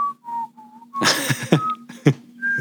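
Someone whistles a few short, casual notes, broken by a burst of breathy, rustling noise in the middle, then resumes with brief whistled tones.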